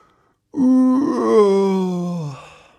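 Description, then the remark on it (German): In a children's story, a voice imitates the wind howling outside with a single loud, sustained moaning wail of about two seconds, rising slightly and then sliding downward as it fades. No rain is audible. “Da hört er draußen schon den Wind heulen und den Regen gegen das Dach plattern.”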